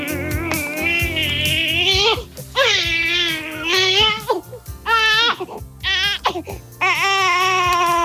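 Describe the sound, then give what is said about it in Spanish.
A newborn baby, the first born since 1973 in the village of Las Casas del Conde in Salamanca, Spain, cries loudly in repeated wailing bursts, each rising and breaking off with brief gasping pauses between cries. “Este es el llanto del protagonista de nuestra historia. Es el primer bebé nacido desde 1973 en las casas del Conde.”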